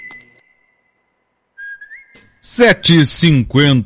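Thin, clear whistled notes end a song played on the radio programme Bem Gaúcho: a long held tone fading out, a short gap, then a rising whistle, followed by loud, bright voiced sounds.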